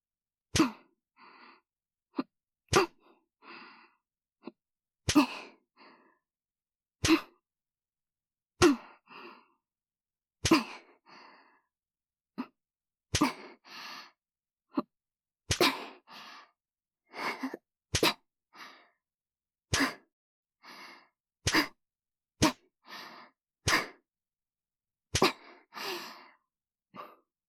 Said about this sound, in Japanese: 眉間にしわ寄せて、我慢してる？はぁはぁ息遣い、荒くなってるね。